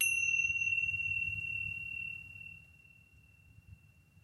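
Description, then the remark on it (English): A single bright 10-minute meditation timer chime rings out at the start and slowly fades over several seconds, a clear sustained tone above a soft low background hum. “You can continue as long as you like, or you can stop when you hear the 10-minute chime.”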